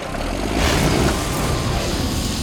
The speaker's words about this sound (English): I'll just hop on the tractor and start her up.